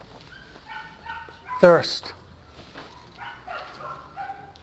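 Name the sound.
dog barking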